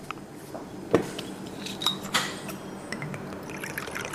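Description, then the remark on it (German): König Gin der Hanse is poured into a large goblet-shaped glass over very large ice cubes in hot weather, with a soft trickle and a few sharp clinks of ice cubes against glass, with no one speaking. “Die König Gin der Hanse eingeschenkt? Genau, du gießt das über die Eiswürfel.”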